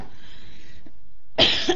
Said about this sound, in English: Excuse me. I'm going to put the mic on mute for a minute. Okay, sorry, you guys. I had like a little coughing spell.